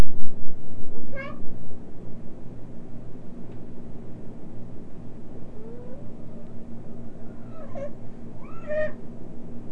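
A cat meows a few times: one cry early on, then two more in quick succession near the end, over a steady low electrical hum.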